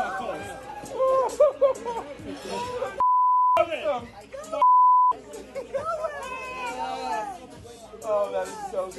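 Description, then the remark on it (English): Two steady, high censor bleeps, each about half a second long, cut into a group of friends and a fiancée shouting and cheering as golfer Brandon Matthews wins on the Corn Ferry Tour to reach the PGA Tour, with the voices dropping out completely under each bleep. “A lot of beeps going on to understand the love for Brandon Matthews, who joins us now.”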